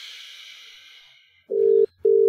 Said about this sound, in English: It's ringing.